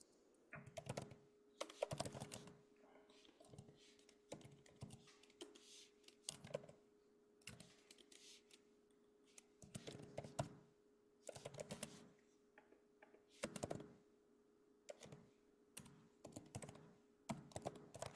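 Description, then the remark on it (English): Steady typing on a computer keyboard, bursts of crisp key clicks with short pauses between runs, over a faint constant hum. “While you're typing”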